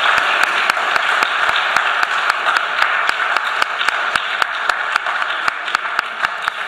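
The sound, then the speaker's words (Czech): An audience applauds steadily to welcome a returning guest who has come back after half a year, a dense wash of overlapping claps with a few sharper individual claps popping out, sustained evenly for several seconds with no voices. “Dneska máme mezi námi vzácné hosta, vítá mezi námi tatka, který po půl roce přišel, můžeme mu zatleskat.”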